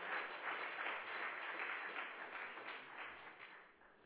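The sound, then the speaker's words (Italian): A crowd applauds steadily for the Lord at a religious gathering, a dense wash of many hands clapping at once, loud and sustained for about four seconds before easing slightly at the end. “Forte applauso al Signore”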